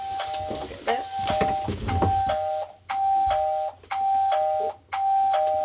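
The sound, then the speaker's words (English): A computer doorbell chime from nest-monitoring software called the train station rings out its two-tone ding-dong again and again, about five times in steady succession, clear, with faint background noise muddying the first couple of chimes. The chimes announce kakapo arriving at or leaving their nests. “These chimes are the ding-dongs, and they announce arrivals and departures.”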